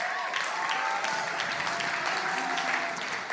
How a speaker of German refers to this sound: Und wenn ihr die Bibel feiert, dann gebt Jesaja 9, Vers 1 mal einen richtig fetten Applaus.